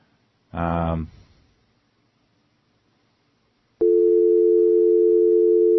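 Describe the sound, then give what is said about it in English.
A brief harmonic burst near the start, then after a pause a steady, loud telephone line tone begins abruptly and holds unbroken with no ringing pattern, as a dialed phone call fails to ring through. “Now it's not even ringing.”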